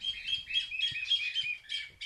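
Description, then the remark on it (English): A chilalo bird, a species unique to northern Peru, calls in a rapid, continuous run of bright, high chirps and whistles, clear, with faint low background rumble and no talking. “Hear that bird? It's called a chilalo. It's unique to northern Peru, and village elders watch this bird closely to understand what weather might be coming.”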